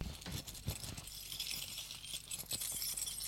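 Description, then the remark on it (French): A bunch of keys, found in the pocket of a raincoat, jangles in short bursts of bright metallic clinking, shaken and rattled continuously for a few seconds with no voices. “En posant l'imper, met les mains dans l'imper et trouve un trousseau de clés.”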